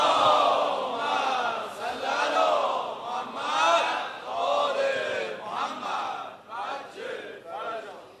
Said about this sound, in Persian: هر کی دلش میخواد به حق این روزه آقا علی اکبری که خونده شد، به حق فضائل آقامون امیرالمومنین، به حق مولد امشب آقامون امام هادی، اول دعاش انشاءالله فرج امام زمان باشه، صلوات بلند بفرست.